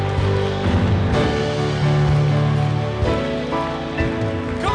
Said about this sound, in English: If you receive it, one final time, take 30 good seconds. Clap your hands all you and shout unto God.